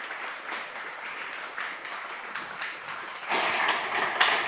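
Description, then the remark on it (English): A crowd applauds steadily with dense overlapping claps, swelling louder and fuller in the last second, with no talking, as an audience welcomes a speaker from the Open Source Imaging Initiative. “Give a big applause”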